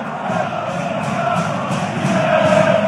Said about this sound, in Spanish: Pero sí se alcanza más o menos a entender lo que le gritaban a Santiago Jiménez con un yen, más de 60,000 aficionados en el estadio del Feyenoord Rotterdam. Lo escuchamos.